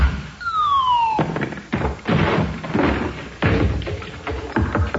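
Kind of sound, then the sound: impact, door being broken down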